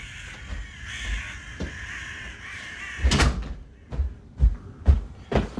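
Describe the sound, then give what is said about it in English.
A door that keeps coming open rattles and knocks several times in quick, uneven succession, fairly loud, after a few seconds of steady background noise. No one speaks. “And my stupid door is open again.”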